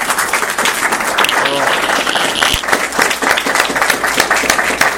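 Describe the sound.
A crowd applauds steadily, a loud, dense patter of many hands clapping at once that holds evenly for several seconds, with a brief voice or cheer rising faintly through it.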